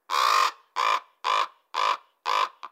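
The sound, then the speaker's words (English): A raven calls five times in a steady series of deep, harsh, resonant croaks, each about half a second long, followed by a short clipped sixth note. Fairly loud, with no talking. “And their call is quite distinct, usually a much deeper and sonorous sound than a crow's call.”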